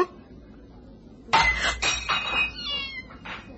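A sudden glassy clunk as a tossed half bottle of champagne lands in a garden and hits a cat, which lets out loud, drawn-out yowls that rise and waver for about two seconds after a quiet start.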